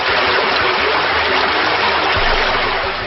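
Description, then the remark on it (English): A loud, steady gush of rushing water, a video game water attack effect as the creature Hydric uses the water-type special move Drench, pouring continuously for about three seconds with no voices. “Select use volume level, drench, water, special, effect points, Hydric use drench.”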